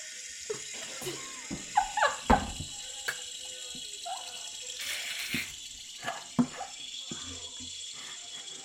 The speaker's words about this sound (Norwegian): Det der var en brannslange. Det var helt vilt.